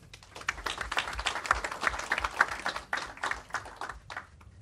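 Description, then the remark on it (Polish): An audience breaks into steady applause, a dense crackle of many hands clapping together that holds for several seconds, swelling slightly in the middle and thinning toward the end, with no voices. “Prosimy o brawa.”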